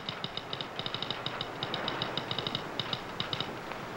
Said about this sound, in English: Now, at the depot, Hastings sits at the telegraph machine.